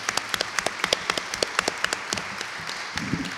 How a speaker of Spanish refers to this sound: Gracias por la invitación y bueno, yo pido otro aplauso para los autores valientes.